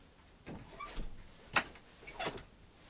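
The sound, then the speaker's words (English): A door being opened, with a soft scraping rumble, a sharp latch click in the middle and another brushing slide after it. No one speaks. “Should I open that door for you?”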